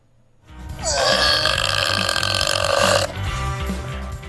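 A long, loud burp that rumbles and drones for about two seconds, rising at the start and cutting off abruptly, followed by a low lingering rumble.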